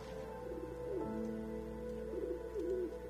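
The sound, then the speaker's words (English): Pigeons coo softly in a park in a few low, warbling phrases, one early and a longer run near the end, over a steady background hum with no one talking. “Sometimes after work, I go to the park and feed the birds.”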